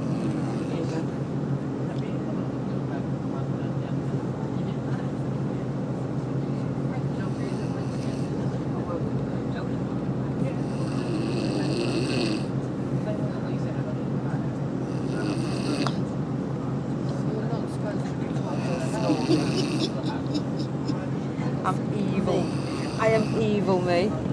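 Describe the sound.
A person snores on a moving coach, with rough, rhythmic breaths rising every few seconds over the steady low drone of the engine. Faint murmured voices sit in the background.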